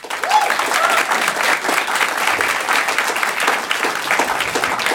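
Sustained audience applause fills the space, a dense wash of many hands clapping at steady volume throughout, with a few faint whoops or calls rising above it.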